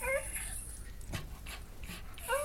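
A dog whimpers in high, thin whines at the start and end, with quick breathy panting in between, fairly quiet against a faint background hiss.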